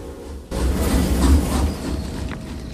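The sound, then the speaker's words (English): A gargantuan armored steam train with riveted dark steel sides rumbles and hisses as it gathers speed at night, a loud, dense roar of low rumble and rushing noise that surges in abruptly and stays steady. “The dark steel riveted sides glisten in the moonlight as the train gathers speed.”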